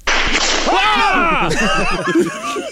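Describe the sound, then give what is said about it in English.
A whip crack sound effect opens with a brief, sharp swishing burst, quickly followed by a stretch of wavering, melodic vocal sounds that fill the rest of the moment. “Here's that quiet whip again.”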